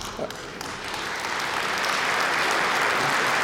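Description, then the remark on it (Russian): An audience breaks into applause, the clapping swelling over the first second into a steady, dense wash of many hands that stays loud to the end. “Это ожидаемые аплодисменты.”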